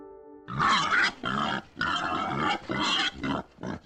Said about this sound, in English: It's the wild boar, which is native to the UK and has established strongholds in some parts of the country, most notably the Forest of Dean.